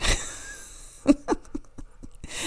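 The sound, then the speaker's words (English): A dog lets out two short, sharp yelps in quick succession, followed by a scattered run of faint clicks and taps; no one speaks. “My dog's being really loud.”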